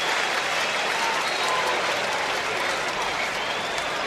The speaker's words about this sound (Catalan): Aplaudiments de suport al Camp Nou.